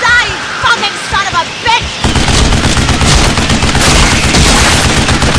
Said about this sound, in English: The heavy-duty combat rounds of the rapid fire tore the stingwings apart.